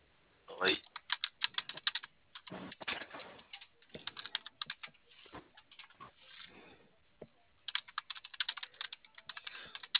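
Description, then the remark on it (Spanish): Rapid bursts of typing on a computer keyboard, crisp, with irregular clusters of clicking keys separated by short pauses and a few faint background sounds. “Déjale, checo el teclado, ¿va?”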